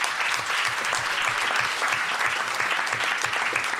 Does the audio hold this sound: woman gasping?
no